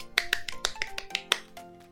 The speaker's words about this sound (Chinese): 直到一周后我终于执行了，请大家帮我拍拍手。